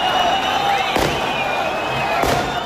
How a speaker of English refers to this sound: NPR's Anas Baba was in southern Gaza today as the detainees arrived to great cheers and celebratory gunfire.